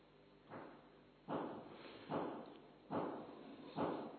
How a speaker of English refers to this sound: Oh, someone is hammering. Someone is helping maintain this place, probably, which is good.